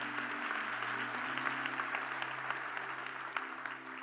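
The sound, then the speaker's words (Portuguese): Steady, sustained applause from an audience for a 'powerful generation', a dense crackle of many hands clapping at an even loudness throughout, with a faint low hum underneath. “Glória a Deus, vamos dar um aplauso aí para essa geração poderosa.”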